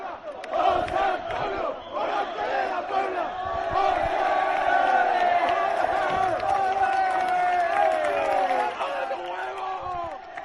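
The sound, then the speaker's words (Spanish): A crowd of young people cheers and chants together outside the hotel where bullfighter Morante de la Puebla was staying, hailing him after his second puerta grande at Las Ventas as he came out on the balcony; a dense wall of overlapping shouting voices that swells and stays loud and steady for about ten seconds, with some claps mixed in. “Una multitud de jóvenes aclamaban ayer en el hotel en el que se hospedaba Morante, le aclamaban después de su segunda puerta grande en las ventas y él salió al balcón a saludar a todos estos jóvenes.”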